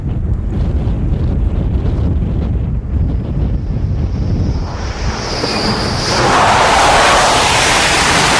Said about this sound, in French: Il y a moins de vent dans le coin. Dès qu'on est derrière à l'abri de l'îlot, vous avez vu, le vent, il est tout de suite masqué et on est plus à l'aise.